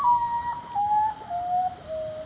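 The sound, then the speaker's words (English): A common potoo, a nocturnal bird of tropical Central and South America, gives its mournful call: a sequence of about four clear whistled notes, each one stepping lower in pitch, heard alone against a soft, hissy nighttime background. “What does musician Nancy Rumble, who composed the theme music for Bird Note, hear in the call of the common potu?”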